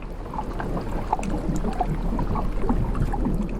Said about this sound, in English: And then out there I was able to record this wonderful sort of rhythm of the water backwards and forwards over the hydrophones.